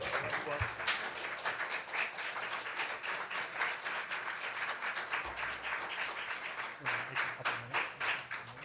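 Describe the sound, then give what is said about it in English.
People at an Assembly meeting applaud steadily after ordinance 2018-11J is approved by unanimous consent, a dense patter of many hands clapping at once that holds at an even level for several seconds without pausing. “And if people want to take a break and clap and leave.”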